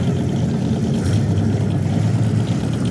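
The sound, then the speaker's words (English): The number 99 race car, in pole position for a race on ice, starts up and idles with a steady, deep rumble, fairly loud, holding an even throb for the whole stretch with no voices. “starting up the number 99 Mohawk Market car.”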